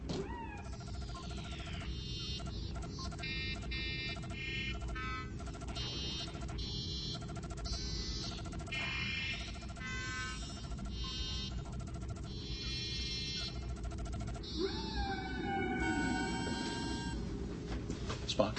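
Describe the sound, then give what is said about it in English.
Humpback whale song, the probe's transmissions as they would sound underwater: long, eerie tonal calls that glide up and down in pitch, some in rapid repeated pulses, over a steady low rumble, with no voices. “The probe's transmissions are the songs sung by whales. Whales? Specifically, humpback whales.”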